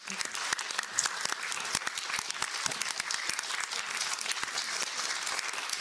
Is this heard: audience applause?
yes